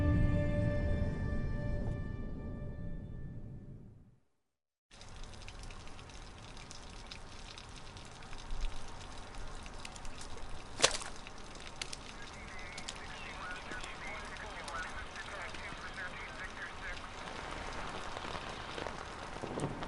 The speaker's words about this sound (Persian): ولی یه طوفان شدید در راه بود و همه ی ما رو در هم شکست.